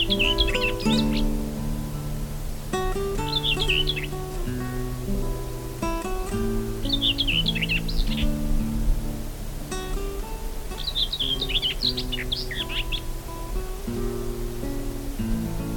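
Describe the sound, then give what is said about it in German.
A common whitethroat sings short, scratchy, rapid warbling phrases, repeated every few seconds, over a steady low tonal background that runs throughout. “Das war die Dorngrasmücke.”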